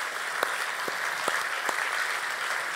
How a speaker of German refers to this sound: Das ist also ein ganz, ganz großer Aufwand, ein ganz großer Einsatz gewesen. Ruhig mal einen Applaus auch dafür auf alle Fälle.